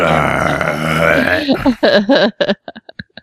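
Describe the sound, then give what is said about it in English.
A long, loud, croaking burp rumbles for about a second and a half, then breaks into a run of shorter gurgling bursts and a few faint trailing hiccups. “I should just let them go when they come up. Let's let them go.”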